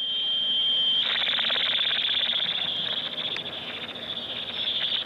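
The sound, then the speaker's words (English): A steady, high-pitched electronic tone from a radio tracking transmitter that researcher Cochrane fitted to a flying bird. The tone soon takes on a rapid, fluttering pulse, as if rhythmically chopped. It sounds alone over faint background hiss. “At first, Cochrane was equipping the birds with a transmitter that would send out a beeping signal.”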